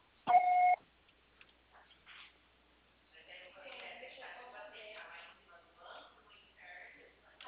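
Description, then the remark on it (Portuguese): A single loud, steady electronic beep lasting about half a second, a voicemail recording tone, followed after a short pause by indistinct, muffled voices talking. “Grave seu recado agora.”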